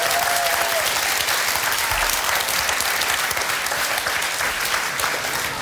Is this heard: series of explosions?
no